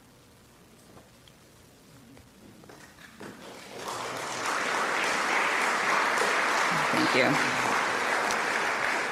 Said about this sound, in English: You're going to get tired if I make you clap after each poem, so don't worry.